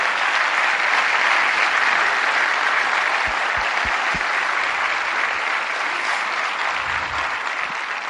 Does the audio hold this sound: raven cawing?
no